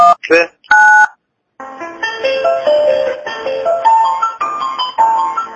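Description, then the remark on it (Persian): A quick run of electronic telephone dialing tones as a call is transferred to the FATA police, a few short beeps and then one slightly longer tone, clear, followed after a brief pause by a recorded voice message from the Alborz province police command. “متصلتون میکنم اجازه بدید متصلتون میکنم پلیس فتا استعلام خط ما رو بگیرید در خدمت شما.”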